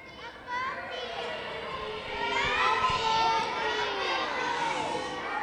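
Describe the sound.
A crowd of children in a gym in Kotzebue reacting excitedly as a Furby, the year 2000's most popular toy, is pulled from a time capsule, many high voices overlapping in a continuous clamor that swells louder partway through and stays lively to the end.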